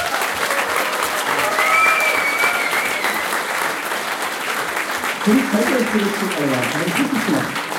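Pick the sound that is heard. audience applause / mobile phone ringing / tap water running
audience applause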